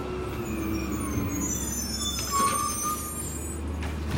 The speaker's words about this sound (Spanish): es que hoy es día, los viernes es día de recolección de basura en la cuadra donde grabamos el podcast, y como, ahí viene el camión, y como, lo voy a dejar porque es parte, ahí va, a ver.